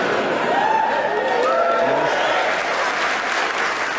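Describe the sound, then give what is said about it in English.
A live Suffolk audience at the Maltings Concert Hall in Snape, Suffolk, cheers and applauds loudly and steadily at a recording of the show Just a Minute, dense clapping with whoops and shouts rising over it, continuous throughout with no lull. “And we have a really hyped-up Suffolk audience in front of us here.”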